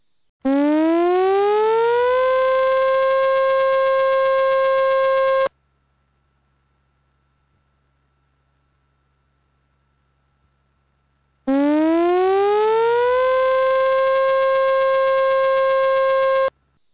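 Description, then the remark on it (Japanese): A Shirahama civil defense tsunami warning siren sounds two long blasts, each sweeping up in pitch before holding a steady, loud wail for about five seconds, with several seconds of silence between them. “津波警報が発表されました。海岸付近の方は高台に避難してください。”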